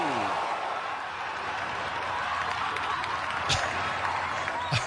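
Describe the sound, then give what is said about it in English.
Sergio's golf ball splashes into water as a gallery murmurs, with soft, scattered clapping and a couple of brief sharp bursts near the end, audio captured by NBC's microphones. “I have to admit, I do like the subtle clapping, but NBC did a great job of getting some nice audio of the ball hitting the water.”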